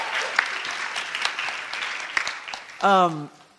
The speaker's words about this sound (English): Guys, why don't you give him a round of applause? Yes, absolutely.